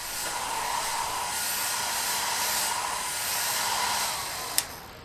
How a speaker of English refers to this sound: To make the crunchiest cornflakes, we need to dry them. Grab hold of the Crunchmatic 3000. It's a bit like a giant hairdryer. And blast the corn dry.